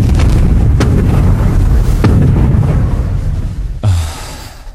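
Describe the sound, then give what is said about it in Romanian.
Artillery gunfire aimed at an enemy searchlight, rounds fired at the same coordinates: about three sharp, booming blasts break through a continuous heavy low rumble, with the last one followed by a deep thud and a hissy tail. No one speaks. “Ei, mai repede, încă patru lovituri cu aceleași coordonate. Foc!”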